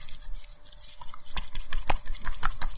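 Wet, sticky squelches and squishes of homemade slime being kneaded, with rapid irregular pops and clicks that grow busier partway through. No one speaks.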